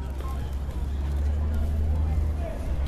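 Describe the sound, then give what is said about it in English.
A steady outdoor city street hum on the street outside a cafe, with a train stop and bus stop in view, constant low traffic rumble from cars and indistinct voices murmuring in the background, holding at an even level throughout. “From where she's standing on the street outside Old School Cafe,”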